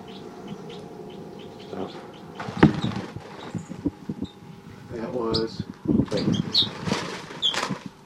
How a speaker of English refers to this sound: These are the babies. Stop. Recording baby crossbills again. Stop. Recording, these are the babies.